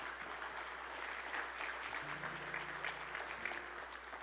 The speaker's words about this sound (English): Would you give Andre a big round of applause?